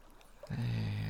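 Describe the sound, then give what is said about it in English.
Hot bath water swishes and bubbles, beginning abruptly after a short quiet pause and then continuing as a steady, fairly full wash of sound with no one talking. “The hot waters and the bubbles feel so nice.”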